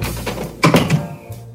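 A door is opened as someone goes out for a morning walk: a sharp latch click and a few heavy mechanical clunks in quick succession, followed by a faint low hum as things settle. No voices are heard.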